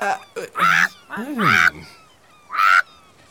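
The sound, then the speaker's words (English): A voice imitates a parrot sitting in a coconut tree, with three harsh, raspy, loud squawks in quick succession and short pauses between the cries. “Parrot is sitting in a coconut tree behind them, squawking.”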